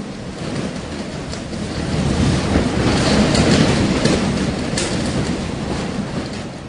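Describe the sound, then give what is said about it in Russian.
A continuous, roaring wash of noise swells louder midway and then eases slightly, like heavy surf churning under strong wind, as storm waves wash over a ship whose mast has broken under black low clouds. Dense, with no voices. “Черные низкие тучи закрыли небо! Ничего не видно! Мачту сломало! Волны захлестывают корабль!”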